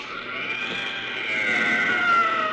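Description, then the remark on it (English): An inhuman, bubbling cry of a blue, gelatinous, tentacled jungle monster after being shot point blank with a chemi gun: a sustained, warbling, high-pitched wail with no voices, swelling a little louder in its second half before holding steady to the end. “There's an inhuman bubbling cry, and the tentacles slowly relax their grip.”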